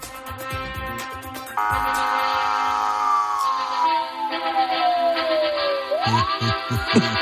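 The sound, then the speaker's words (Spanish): A police siren wails loudly, one long tone gliding slowly downward and then sweeping back up, over a busy, steady background din. “Una sirena de policía.”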